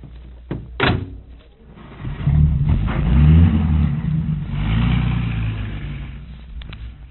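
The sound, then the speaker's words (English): A car door thuds shut, then a car engine starts up and revs, its low rumble swelling loudly before the car drives off and the sound slowly fades. “Now, here's the car. Hop in.”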